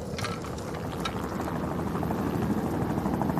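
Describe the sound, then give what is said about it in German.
A second helicopter drones steadily overhead above two mountaineers on a snowy mountainside, dropping a black sack that lands in deep snow about 100 meters from them; its low rotor thump and engine roar fill the whole stretch at a constant level with no voices. “Der zweite Helikopter schiebt sich ins Blickfeld der beiden.”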